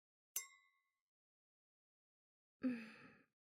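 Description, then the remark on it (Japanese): Two wine glasses clink once in a toast, a bright ring that fades quickly; after a short silence comes a soft, breathy sigh. “それじゃ、二人の出会いに、乾杯。”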